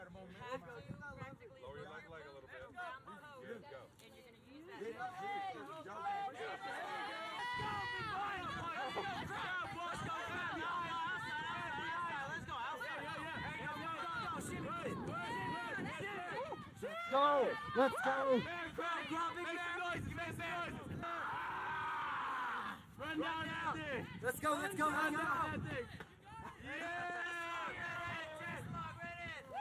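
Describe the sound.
A group of people watched by drill instructors shout sarcastically over one another in a loud, continuous hubbub, yelling as if the task were hard, with some voices rising in exaggerated, overdone yells that carry on for the whole stretch.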